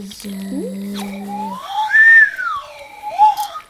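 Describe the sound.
A voice imitates screaming seagulls: a low held tone gives way to high, arching cries that swoop up and fall away, with a shorter squawk at the end, fairly loud.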